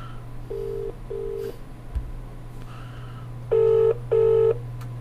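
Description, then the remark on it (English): A phone line rings out on an outgoing telephone call in two short double-tone bursts, the second pair louder and brighter, over a steady low electrical hum with no one speaking. “I don't expect her to pick up the phone or to call me back”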